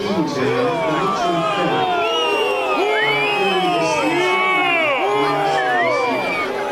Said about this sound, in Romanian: A fost și momentul în care în Piața Unirii au început huiduielile și scandările.